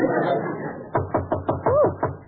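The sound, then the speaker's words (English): After a brief stretch of talking, a steady run of about seven sharp knocks on a door rings out, evenly spaced, with a short rising-and-falling vocal sound over one of them. “…, do you hear someone knocking? Yes, let's open the door.”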